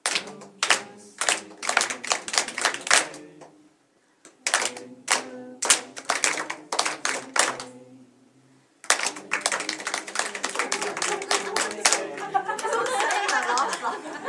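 Several people clap the rhythm of the words of a line in a rhythmic, word-like pattern of sharp bursts, pausing briefly between phrases, with soft murmuring and chatter mixing in toward the end.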